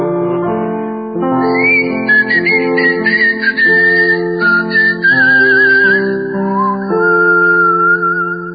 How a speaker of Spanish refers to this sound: No volver a escuchar hoy otra vez nuestra vieja señal, aquel silbar que a la hora de reunión el barrio oyó.